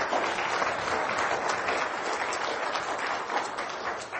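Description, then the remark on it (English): An audience at an academic integrity event claps for the organizing committee, the dense applause holding at an even, fairly loud level for about four seconds with no voices breaking through. “I think we give them a round of applause.”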